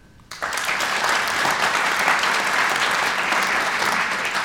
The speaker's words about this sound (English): Just for the radio audience, all the men in the audience clap.